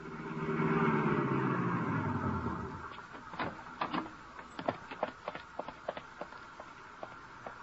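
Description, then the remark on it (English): A car engine hums and rumbles for a couple of seconds as the car is driven out to an arena, then fades, giving way to a run of sharp, irregular clicks and knocks. No one speaks. “I stumbled to the elevator, went downstairs, found my car, and drove out to the arena.”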